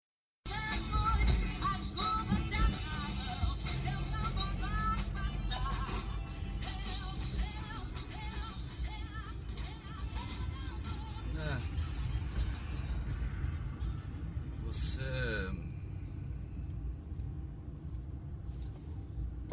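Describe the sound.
A steady, droning car engine rumble fills the inside of a vehicle, low and constant throughout, with muffled voices murmuring over it and a brief brighter hiss near the end.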